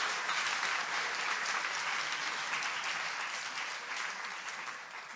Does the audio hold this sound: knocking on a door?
no